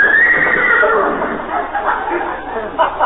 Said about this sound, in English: Oh, that's that Great Dane that belongs to the people next door. Great Dane? Sounded like a horse to me.